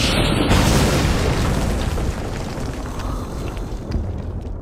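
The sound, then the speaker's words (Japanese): A loud, crackling explosion from a lightning spell called 'God's Lightning Strike' bursts out at once, a dense roaring blast that slowly thins into a rumbling, hissing decay over several seconds with no voices. “神の雷撃！”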